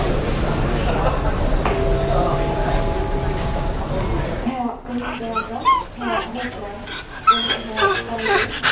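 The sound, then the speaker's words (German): Two dogs, Perro and Jules, whimper and yip in short, high, repeated bursts after a stretch of steady background hum and babble with a brief tonal chime; they are being checked in to fly from Zurich to Chicago with the pet transport firm ACE Pet Moving. “Die beiden Hunde reisen mit dem Flüger von Zürich Lothen auf Chicago, sagt mir der Marcel Brozius, Geschäftsführer der Firma ACE Pet Moving.”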